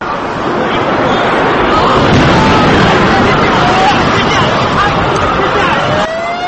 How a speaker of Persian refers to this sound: ساعت 8:46 دقیقه صبح بود، درست 10 سال پیش از امروز. آسمان شهر نیویورک آفتابی بود و یک روز رسمی با ازدحام در مهمترین منطقه تجارتی نیویورک آغاز شده بود. اما با آواز یک انفجار فضای سراسیمگی آغاز شد.